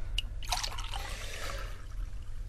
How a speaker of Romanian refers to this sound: Eu cred că mai torn un pahar. Mai vrea cineva? Da. Vreau și eu unul.